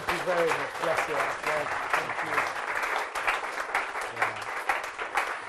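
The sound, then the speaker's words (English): Sustained audience applause showing appreciation for an interviewee, a dense steady patter of many hands clapping for several seconds, with a voice speaking over it briefly. “Yeah, shall we show course. Our appreciation?”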